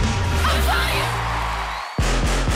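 Loud, sustained shouting as someone enters a radio studio lasts nearly two seconds, breaks off in a brief silence, then returns as a few punchy, rhythmic vocal bursts.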